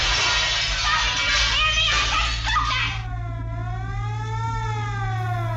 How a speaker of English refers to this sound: A group of men accost him and hold him down on the hood of a car. The windshield breaks.